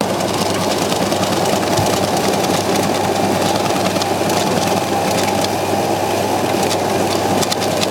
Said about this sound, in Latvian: Viena no mašīnām atlasa nederīgās banknotes. Ar sīkiem asmeņiem tās sadala mazās strēmelēs. Tās pa cauruli aizpūš uz citu mašīnu, kas strēmeles sapresē glītās apaļās briketēs.